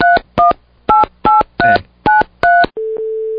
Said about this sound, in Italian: Proviamo un po' a fare sto numero, dai.